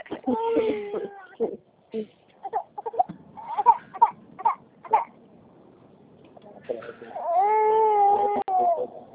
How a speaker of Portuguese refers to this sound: E a neném, tá bem? Tá bem, graças a Deus. Tá aqui, chorando.